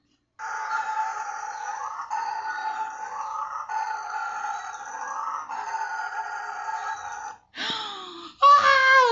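A male howler monkey roars loudly at intruding humans, a call said to carry up to 5 kilometres, in a long, rasping, continuous drone that pulses in repeated surges, then breaks into two shorter calls that sweep up and down in pitch. No one speaks.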